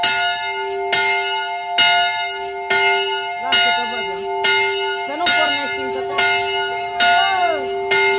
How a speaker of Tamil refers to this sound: நண்பர்களே, இது தண்ணீர் குடிப்பதற்கான நேரம். எல்லோரும் தண்ணீர் குடியுங்கள். வெளிநாடுகள் மாதிரியை நாமும் இப்போது தண்ணீர் மணி ஒழித்து தண்ணீர் குடிப்பதை நினைவுபடுத்துகிறோம்.